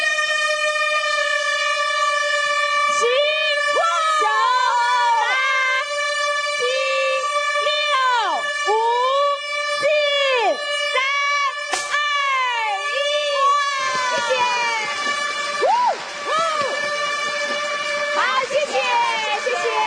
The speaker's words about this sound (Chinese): 首先呢，我们要来欢迎大河之恋皇后号来当我们鸣笛啊，让我们一起来引爆希望， 领航未来，鸣笛。